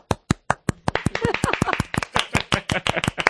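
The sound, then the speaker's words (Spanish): Rapid, sharp hand claps in a steady flamenco-style rhythm, around five or six per second, crisp and bright, with a faint murmur of voices underneath. “¿Tú has tocado las palmas y los palillos? No, las palmas solo.”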